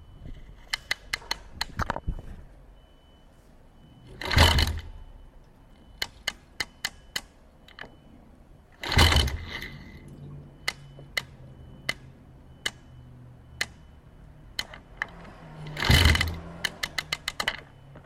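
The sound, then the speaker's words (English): A kick-start lever, recorded with a contact mic, is stomped three times, each a loud whoosh as the lever goes down and spins the engine, followed by bursts of sharp mechanical clicks as the lever ratchets back to its position. No voices. “So when you kick it, it goes down, spins the engine, and then it ratchets back to its position, which is the clicking that you can hear.”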